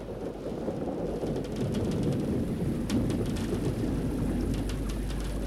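Heavy rain pours steadily and loudly, with sharp drops pattering against a window pane while a deep thunder rumble rolls continuously underneath. No one speaks.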